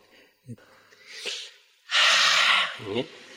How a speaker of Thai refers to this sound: หลวงพ่อไม่ชอบกรรมฐานหลับตานะพระพุทธเจ้าไม่ได้สอนท่านสอนให้รู้สึกตัวลืมตาหายใจแรง